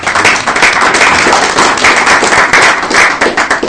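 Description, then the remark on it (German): A crowd at the Medienforum applauds steadily, many hands clapping in a dense, loud, continuous patter that holds its level throughout with no voices over it. “Ich glaube, das verdient nochmal einen Applaus.”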